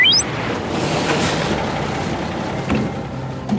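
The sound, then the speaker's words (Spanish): Steady roar of heavy road traffic with a bus, with a rising whine at the start and a brief hiss like an air brake near the end, continuous and fairly loud with no voices. “Creo que el camión estaba dirigido por control remoto, creo.”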